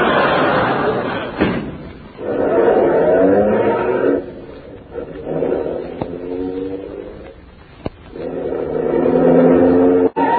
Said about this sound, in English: Yes, I will. I'll park that car.